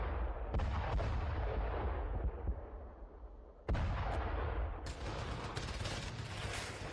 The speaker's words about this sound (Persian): اما صبحگاه هفتم ثور سال 1357 هجری خورشیدی مردم کابل با صدای توپ و غرش تانک ها از خواب بیدار شد.